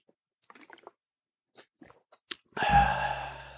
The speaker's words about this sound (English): Going to take a swig of water.